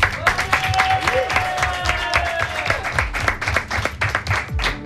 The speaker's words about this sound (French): Et bien sûr, on t'applaudit.